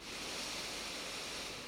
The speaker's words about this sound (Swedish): Så släpp ner axlarna lite grann, slappna av i magen, ansiktet, så tar vi ett djupt andetag in genom näsan, fyller upp bröstkorgen och magen med luft.